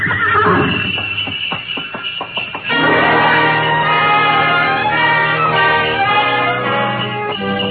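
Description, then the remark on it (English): A horse-drawn sleigh gliding out of a station over snow: a few soft hoof thuds at first, then a steady, bright jangle of bells rings out continuously, with what sounds like a horse's whinny mixed in. No one speaks. “We glided out of the station, runners squeaking on snow, the soft pad of hooves, and the jangle of merry bells.”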